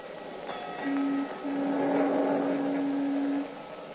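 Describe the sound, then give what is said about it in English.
A car moving in stop-and-go traffic behind a trolley car, its low steady drone cutting out briefly, then resuming and holding for a few seconds before stopping, over a rumbling background of road noise. “It's stop-and-go driving at its worst, and it's very aggravating.”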